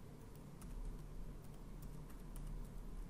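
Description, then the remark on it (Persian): Quiet, irregular tapping of keys on a computer keyboard as an email address is typed into the login form of a brokerage website, a run of soft clicks spread across a few seconds over a steady low background hum, with no one speaking. “در قسمت اول ایمیلی که با استفاده از اون در این کارگزاری ثبت نام کردیم رو یادداشت می‌کنیم.”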